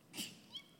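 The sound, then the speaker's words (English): A single quick sneeze during a sermon, a sharp hissy burst of air that ends almost at once, followed by a faint high squeak and near silence. No one speaks. “Bless you.”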